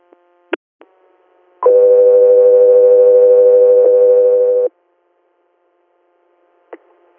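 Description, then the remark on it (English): A long, steady electronic tone holds for about three seconds, loud and clear, with a few short clicks and blips before and after it: radio dispatch alert tones sent to Country Air. “Country Air, stand by for tones.”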